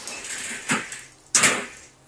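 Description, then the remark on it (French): Two hollow door clunks a moment apart, the second louder and sharper, echoing in a quiet, reverberant space at a Carmelite community, with no voices. “J'entends des bruits de portes, de pas, des chapelets qu'on égrène.”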